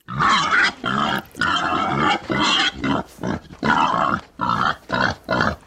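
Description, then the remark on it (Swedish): A wild boar grunts and squeals in a rapid series of about ten harsh, loud bursts, each broken by brief pauses, with no voices present. “Barbro får sedan 15 år tillbaks besök av vildsvin på mors dag.”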